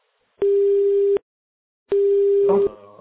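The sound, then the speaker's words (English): A steady telephone ringing tone on the line sounds twice in even, loud beeps with a pause between, and a voice starts speaking as the second tone ends. “I seem to hear a ringing noise.”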